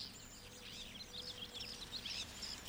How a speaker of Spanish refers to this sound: Escuchame, escuchá los pájaros.